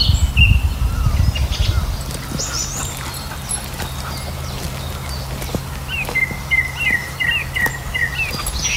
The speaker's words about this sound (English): song thrush.